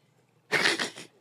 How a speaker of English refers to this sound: Okay, and then you add the rest of the water in there. Mm-hmm. It's a fun sound.